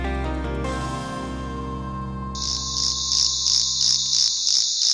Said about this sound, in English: This cricket-like sound is the call of a tiny pumpkin toadlet from southern Brazil. Now, researchers write in scientific reports that the bright orange frog can't hear its own voice.